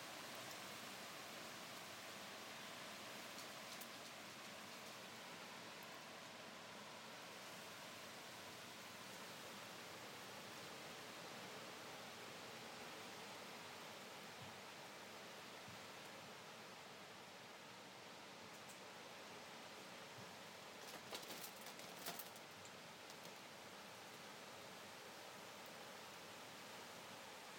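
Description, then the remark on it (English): A steady, continuous rush of strong wind through trees on a very windy, humid day with rain looking likely, a dense hissing roar that barely lets up, with a brief louder rustling gust near the end. No one speaks. “I don't know if you can hear the wind in the trees. It's quite strong and it's very humid.”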